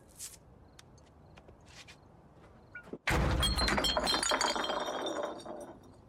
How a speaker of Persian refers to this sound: حالت خوبه؟ حالم خوبه. بعد جوری رفتی تو شیشه؟